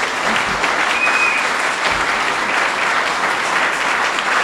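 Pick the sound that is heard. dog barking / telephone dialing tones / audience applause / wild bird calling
audience applause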